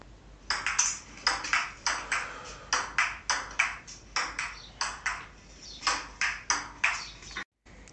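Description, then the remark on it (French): A ping-pong ball clicks back and forth in a quick, uneven rally, roughly seventeen crisp taps over several seconds. The hits are bright, with no voices, then stop abruptly. “Je vais me jouer au ping-pong.”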